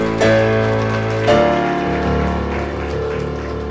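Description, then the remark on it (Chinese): An audience claps for Jesus after a prayer at a Christian service, a dense, crackling wash that swells twice early on, with sustained keyboard-like tones ringing underneath throughout. “我们把掌声给耶稣。”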